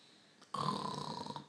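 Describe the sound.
A person makes a single loud, raspy snorting sound imitating a pig's snore. It starts abruptly after a brief quiet moment and lasts about a second.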